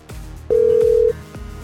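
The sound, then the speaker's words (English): A single steady ringback tone from an outgoing phone call sounds for just over half a second, loud and clear, with a soft rhythmic thumping beat underneath. No one speaks. “It's just ringing and answering machines, disconnected numbers.”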